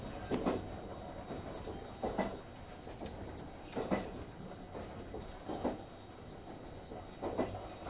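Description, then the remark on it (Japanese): The limited express train Kamome No. 31 rolls toward its terminal at Nagasaki with a steady low rumble, broken by regular clunking wheel beats over rail joints about every second and a half, with no voices. “まもなく終点長崎です。本日は特急かもめ31号をご利用くださいましてありがとうございました。”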